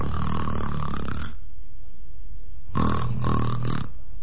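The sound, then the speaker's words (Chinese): A storyteller imitates loud snoring, as of Kou Zhun lying in the mourning hall snoring with his eyes open: two long, rasping snores separated by a short quiet breath in between. “瞪着眼睛又打上呼噜了。”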